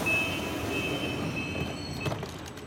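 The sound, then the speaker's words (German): A U-Bahn subway train rumbles steadily while a high, sustained warning tone sounds over it, then cuts off as the doors close and the train moves on. “Mit der U-Bahn ins Büro fahren”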